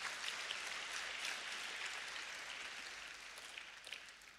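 A crowd claps for the Lord, steadily and continuously, a dense wash of many hands with no single beat standing out, holding at a fairly even level throughout and easing off only slightly toward the end.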